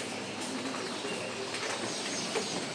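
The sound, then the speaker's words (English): Soft, low pigeon-like cooing from birds nesting under an above-ground train station drifts in a few times in the early morning beneath a steady wash of urban background noise. The cooing is faint, and no one talks. “Because under this above-ground train station, there are like a ton of birds that nest.”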